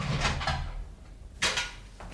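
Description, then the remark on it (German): A key-like rattle and latch clicks as someone unlocks a door, then the door swings open with a short scraping burst; fairly clear over a low room hum, with no one speaking. “Da hörte ich jemand die Tür aufschließen.”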